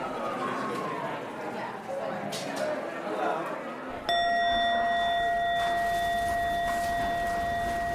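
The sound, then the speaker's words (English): A single bell is struck once, sharply, then rings out in a long, steady, clear tone that sustains to the end. Before the strike, about 60 people murmur and shuffle in an old industrial space with a cement floor and tall ceilings in New York City. “A bell. The sound of a bell ringing out.”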